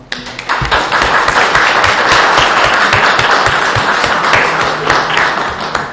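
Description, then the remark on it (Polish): An audience at a commune council session applauds steadily, dense overlapping claps holding an even, fairly loud level for several seconds, with no voices over it. “Jeszcze raz prosimy o oklaski.”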